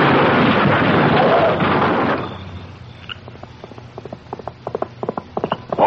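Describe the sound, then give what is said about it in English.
Horse hooves gallop hard in a loud, dense rumble, then break into separate clip-clopping steps that slow and spread out as the horse comes to a stop. “Dad, burn you horse! You're going to have to learn to stop by yourself.”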